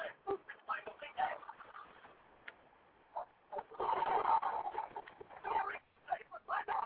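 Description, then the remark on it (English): Dogs bark in a run of short, sharp bursts that swell into a louder, more continuous cluster of barking midway, then break back into scattered yaps. The barking is moderately loud. “Whose dogs are those?”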